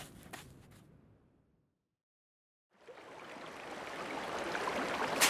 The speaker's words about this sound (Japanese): 川だ。本物の川だよ。 これは驚いた。ロプノールに注ぐ川かな。もっと南にいると思ってたが。